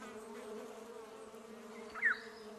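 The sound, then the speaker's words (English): A dense swarm of insects buzzes in a steady, low droning hum that holds evenly throughout, with one brief higher-pitched chirp cutting through near the end. “by the philosopher who says, things are not things, but groups, sets, swarms, flux, playing their music of ant and bird. The swarm is light, its energy, fruit of the desert's edge.”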